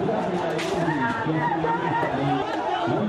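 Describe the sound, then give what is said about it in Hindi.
A crowd of young student protesters in Myanmar, baton-charged by police, fills the air with dense, overlapping voices, a steady loud hubbub of many people talking and calling at once with no single voice standing out. “ये म्यांमार में मुजाहिरा करने वाले नौजवान स्टूडेंट्स हैं जिन पर पुलिस ने लाठी चार्ज किया है।”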